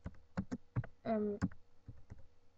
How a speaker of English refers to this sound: Sorry, I'm just typing some stuff.